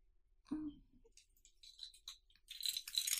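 A soft thump and some rustling as someone rummages for their house keys, then scattered metallic clinks that build into a bright jingling of keys being shaken, fairly quiet overall with no one speaking.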